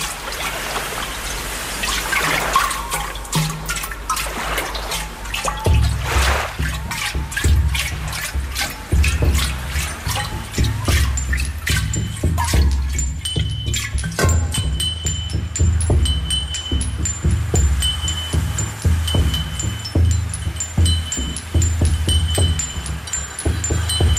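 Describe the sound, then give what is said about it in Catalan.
Experimental music built from splashing, trickling water sounds, dense and continuous, with scattered drips and clicks over a low rumbling bed; no voices. “Clar, algú dirà, què vol dir música, això? Si això és aigua, si algú està rentant la roba.”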